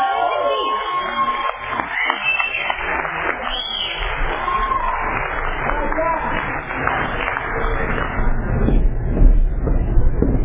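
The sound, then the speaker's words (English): An audience at an Alcoholics Anonymous meeting in Tulare County cheers and applauds steadily for about ten seconds to welcome the main speaker: a dense wash of clapping with scattered shouts and whoops that swells slightly toward the end. “Please help me offer a warm Tulare County welcome to our speaker tonight,”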